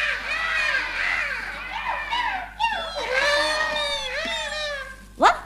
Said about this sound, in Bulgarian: Това не е мъгла, а облак. Това не е облак, а рояк. Това не е рояк, а ято. Това са гарванчета.